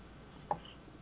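A single crisp tick, like one beat of a clock, sounds once against a faint, quiet background hiss. No voices.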